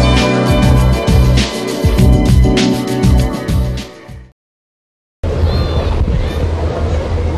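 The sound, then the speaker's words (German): Steady warm wind rushes against the microphone along with splashing water at Lake Starnberg on a sunny Saturday at 11 a.m., with a low mechanical hum. The sound cuts out briefly for about a second, then resumes just as full. “Die Sonne scheint, ein warmer Wind weht über den Starnberger See.”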